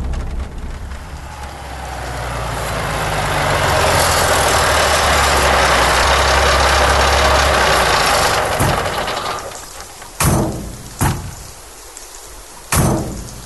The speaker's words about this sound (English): It's my old house! Stop the truck!